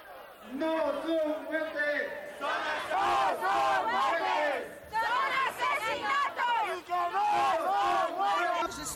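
crowd, protest rally crowd shouting

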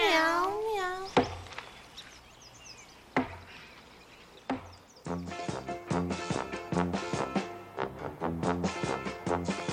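animal, cat meowing

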